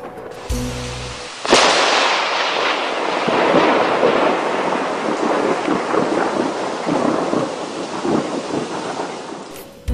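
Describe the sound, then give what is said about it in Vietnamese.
A large thunderstorm in Oregon: a sharp, loud thunderclap bursts in after a brief low tone, then rolls on as a long, crackling rumble over the steady hiss of cold rain on a tent, powerful throughout. “vì trận bão quá lớn nên hôm nay chúng tôi tạm nghỉ.”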